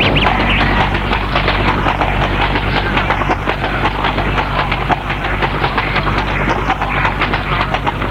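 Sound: horse hooves clip-clopping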